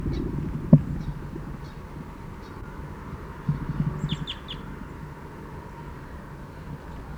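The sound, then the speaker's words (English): Caged birds give a quick cluster of three faint, high, downward-sliding fight calls, with a few softer chirps before them, over a steady low rumbling background. “Fight calls now by the cage birds.”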